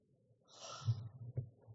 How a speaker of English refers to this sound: What's that I hear? Loud snoring. That's just elderly … snoring the night away in his bed.